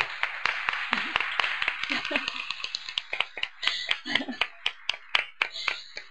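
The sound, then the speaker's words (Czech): An audience at a Christian gathering applauds to welcome the main speaker, with a dense run of sharp, overlapping claps lasting several seconds, and a few voices talk faintly underneath the clapping. “Můžeme zatleskat.”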